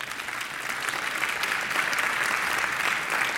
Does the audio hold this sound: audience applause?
yes